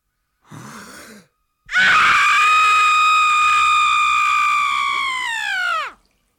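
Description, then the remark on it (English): A male voice imitates a woman's childbirth scream: a short strained breath, then one long, loud, piercing sustained wail lasting about four seconds before dropping off abruptly. “It's the fire, water, female birth scream. And this is about as close as I've been able to get.”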